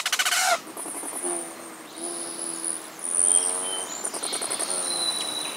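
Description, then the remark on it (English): Migrating hummingbirds, including rufous and ruby-throated hummingbirds heading north from Mexico or Central America, calling with thin, high-pitched chips and rapid buzzy trills, repeated in quick bursts throughout, clear with no talking. “Here they come. Rufous hummingbirds, ruby throats, and others are migrating north after a hot, dry winter in sunny Mexico or Central America.”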